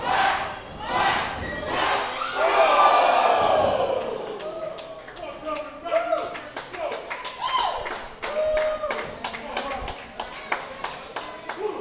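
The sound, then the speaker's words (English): A large arena crowd at a wrestling match roars loudly, then settles into steady, rhythmic group clapping with chanting voices rising over the beat, continuing evenly to the end. “Heavy quack chant has come over the crowd.”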